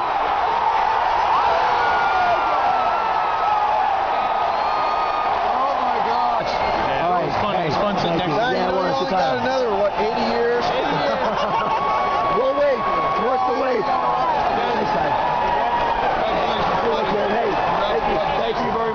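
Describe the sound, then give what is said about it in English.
A huge baseball stadium crowd at Fenway Park roars and cheers without letup at the final out of the 2004 World Series, recorded on video by a member of the crowd: a dense wall of overlapping voices with individual shouts and whoops rising out of it, loud and sustained from start to finish. “This is from a video taken by a member of the crowd. So sitting there in Fenway Park witnessing the final out of the 2004 World Series.”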